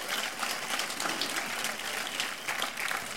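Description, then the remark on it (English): A crowd at the Florida Folk Festival claps steadily for the sound crew, a dense rattle of many hands forming a continuous wash of applause with no voices standing out, holding level throughout. “So let's have a round of applause for our sound crew.”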